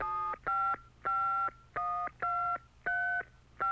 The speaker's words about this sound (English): He started to telephone them.